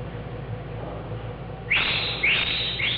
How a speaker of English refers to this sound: He got a present from Japan. It was a bird made of gems that sang just as sweetly.